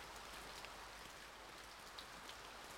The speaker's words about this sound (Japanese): また雨か。